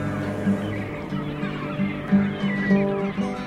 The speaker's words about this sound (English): You hear the seagulls? You hear the seagulls out there? Yeah. Gulls. Gulls, not seagulls. Gulls. Western gulls. That's right.